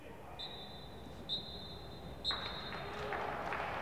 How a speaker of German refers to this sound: tatsächlich St. Pauli mindestens eine Klasse besser und alle Spieler in Erwartung des Halbzeitpfiffs und ich drehe auf, damit ihr den hören könnt.